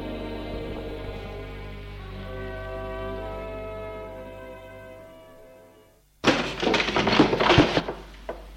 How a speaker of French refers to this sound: La porte s'est ouverte.